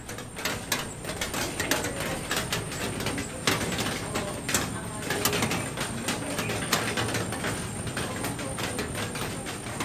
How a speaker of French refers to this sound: C'est fou comme c'est réconfortant l'eau de la pluie sur les tôles. Hein, c'est un bruit familier et rassurant pour vous aussi ? Oui, c'est marrant parce qu'en ville, ici en Australie ou au Canada, si j'entends la pluie comme ça, ça me rassure aussi.